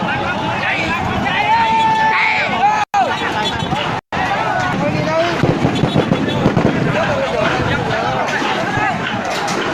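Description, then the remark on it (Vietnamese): Sharp bursts like gunshots crack repeatedly through a loud, agitated protest crowd in Phan Rí Cửa, Bình Thuận, with shouting voices and running commotion filling the scene, briefly cut by two short gaps. “Thì quý vị cũng có thể nghe thấy tiếng súng nổ, và trên những clip mà người dân thu tại chỗ, livestream tại chỗ, thấy có lựu đạn khói, lựu đạn cây.”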